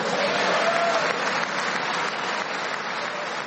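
Sustained applause and cheering from Republicans greeting President Trump's remarks during his State of the Union address to both houses of Congress, a dense steady wash of clapping with faint cheering mixed in, holding at a fairly even level throughout.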